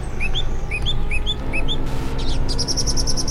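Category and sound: bird, birds chirping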